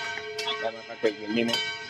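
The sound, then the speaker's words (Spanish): A bell rings with a steady, sustained tone and lingering overtones throughout, while people talk over it. The ringing is moderately loud and fills the whole moment. “Si le deja la campana.”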